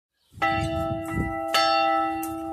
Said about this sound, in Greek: Όταν πηγαίνω στα χωριά έπρεπε να χτυπήσω την καμπάνα για να πάρει χαμπάρι ο κόσμος ότι ήρθε ο ταχυδρόμος.